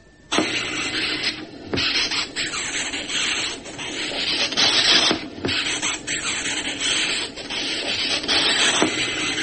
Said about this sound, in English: This is a very high-pitched, squeaky noise. And how is it produced? It is produced by the chin of the beetle rubbed against a ridge on the chest. But That chin has a lot of fine ridges.